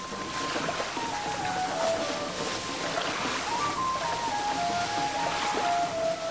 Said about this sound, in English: Jets of water shoot up in a synchronized display.